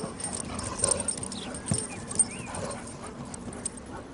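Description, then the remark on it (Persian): Several puppies of a newer dog breed whimpering and whining in short, high cries, with a few brief yips or barks scattered over a steady noisy background, moderately quiet and no speech. “چه سگای خوبی، راستش اینا رو تا حالا ندیده بودم.”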